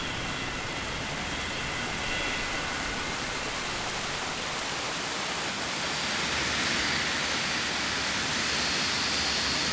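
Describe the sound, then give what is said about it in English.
Steady rain pours down outdoors, a dense, even hiss that stays loud and constant throughout with no voices or other distinct sounds. “I have been indoors too long. This shower... It's bracing.”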